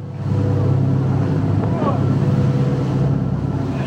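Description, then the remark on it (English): The engine of a Ukrainian coastal patrol boat drones steadily as it sets out in high, very rough seas on the Sea of Azov, a low rumbling hum with wind and water buffeting throughout, loud and constant for the whole stretch. “But we gained rare access to a Ukrainian coastal patrol setting out in high seas to challenge what they say is Russia's illegal naval cordon, something Moscow rejects.”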